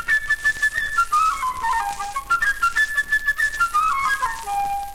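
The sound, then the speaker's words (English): A flute plays a quick, chirping melody high in its range, with rapid runs and short repeated notes rising and falling. The bright, clear tone stands alone without any talking. The flute represents the busy little bird, Sasha, in the story. “For the busy little bird, whose name is Sasha, we'll hear a flute way up high.”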